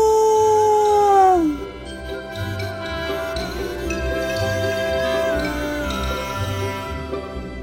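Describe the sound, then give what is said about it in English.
A single loud, drawn-out wolf-like howl, voiced by a person, slides downward and fades after about a second and a half, over a steady, rhythmic backing of soft music and light tinkling. “A big kiss and a hug for all of you from the good wolf. Howoo!”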